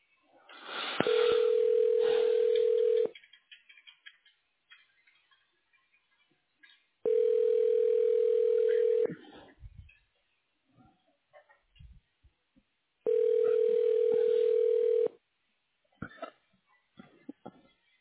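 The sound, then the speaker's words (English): Three telephone ringing tones, each a steady two-second buzz with long silent pauses between, evenly spaced. Faint clicks and low noise fill the gaps, and no one speaks. “To listen to these rings again.”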